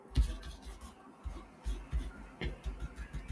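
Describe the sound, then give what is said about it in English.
Soft papery slides and light taps as cards are laid out one after another on a table, a quiet irregular series with no talking. “I'll lay them out.”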